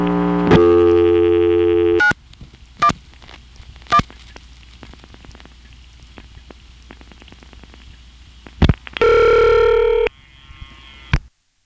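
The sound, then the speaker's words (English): Electromechanical telephone switching equipment in Manassas, recorded in 1976, clatters through a local call dialed as the last 5 digits: a steady tone, rapid relay clicks and pulses, a brief burst of signaling tone, then a few final sharp clicks. No voices. “Here's the same thing from Manassas in 1976, and of course, it's also dialing a local number, which is the last 5 digits in this case.”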